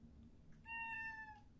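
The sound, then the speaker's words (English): A single cat meow, drawn out for nearly a second and slightly falling in pitch, sounding clear over a low, steady background rumble. No one speaks. “Can I just go past the cat meowing?”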